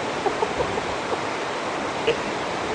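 ocean waves breaking

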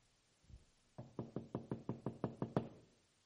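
knocking on a door

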